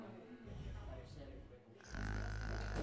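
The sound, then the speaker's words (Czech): Low, rumbling snoring with a rough, rattling buzz that swells and grows louder and more sustained toward the end, with voice-like tones mixed in. “To chrápete vy?”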